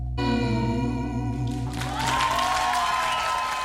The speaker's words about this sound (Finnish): Siinä kuuluu aplodit lopussakin.